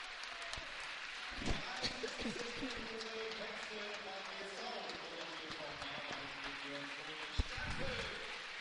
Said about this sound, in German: Und hier wird Manno mit Applaus vom Feld verabschiedet.